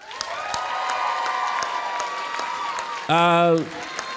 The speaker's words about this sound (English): If you think she should go, applaud now.